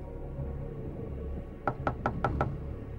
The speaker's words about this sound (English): A man's knocking on the apartment door in Panama.